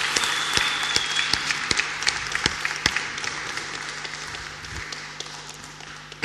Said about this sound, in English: And now we're going to give you a thunderous round of applause.